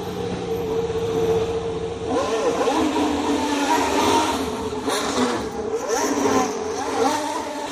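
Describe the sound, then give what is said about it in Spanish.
A Formula 1 racing car engine revs loudly and continuously, its pitch sweeping up and down through repeated gear changes, with a steady mechanical roar underneath and no voices. “Escuchamos el ruido del coche y a Carlos Sainz.”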